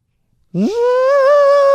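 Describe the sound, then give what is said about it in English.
A person imitates an elephant's trumpet with a single loud, sustained vocal call that sweeps up in pitch and then holds steady and buzzy for over a second after brief silence. “So my animal noise was an elephant, and here's what that sounded like.”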